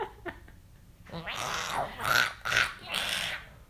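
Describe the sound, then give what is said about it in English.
An upset alley cat growls and yowls in three harsh, wavering bursts of rising and falling pitch, loud and strained, after a second or so of faint scattered clicks. “I'm sure you guys heard that. That cat is upset.”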